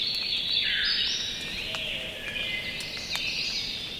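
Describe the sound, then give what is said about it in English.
A dense dawn-chorus-like tangle of many different songbirds singing at once in late May in Ithaca, New York, overlapping high warbles, trills and sharp chirps filling the air continuously, with no speech. “Oh, you're hearing a whole bunch of different birds.”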